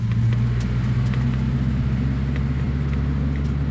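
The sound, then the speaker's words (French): A car engine runs with a steady low rumble and hum for a few seconds, holding an even level throughout with no voices. “Eh bien, moteur en route, on y va.”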